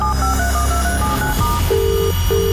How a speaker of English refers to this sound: The phone is ringing. All I need to do is pick it up. That is literally it.